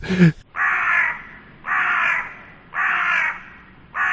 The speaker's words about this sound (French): Je vais ressortir mon bruit de corbeau.